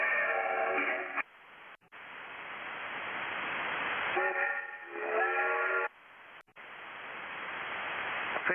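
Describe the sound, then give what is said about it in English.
A train goes by with two long, loud blasts of its whistle, separated by a steady roaring rush of noise that swells gradually. No one speaks. “I like that train.”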